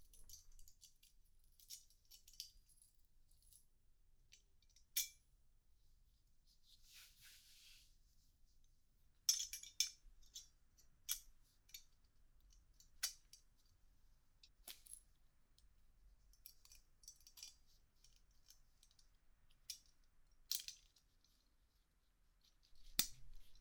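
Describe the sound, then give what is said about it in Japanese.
Sharp metallic clicks and clinks of a metal chastity device being fastened, scattered irregularly over about twenty seconds, fairly quiet, with small rustles between and no voices. “ただいまより低層体を装着する。”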